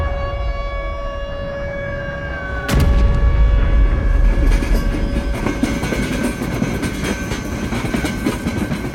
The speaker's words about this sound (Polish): Ten przejazd odbywał się oczywiście wagonami towarowymi.